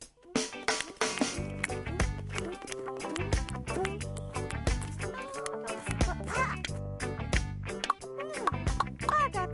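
A duckling quacks repeatedly in short, bright bursts over a steady, busy musical backing, the calls fairly loud throughout.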